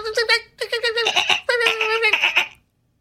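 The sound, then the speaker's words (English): A person imitates the alert call a dolphin guarding a port would give to warn humans of a ship coming in, with rapid, high-pitched chattering squeals and clicks in quick bursts, loud and giggle-like, pausing briefly before a second longer run of whistling chatter. “What would that sound like?”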